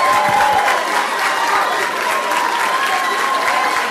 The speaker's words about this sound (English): Once again, let's give all of our students a great round of applause. They did an outstanding job tonight.